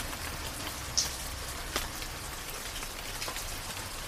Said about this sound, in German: Sanfter bis kräftiger Regen, perfekt geeignet zum Einschlafen, für die Meditation oder für Wellnessbereiche.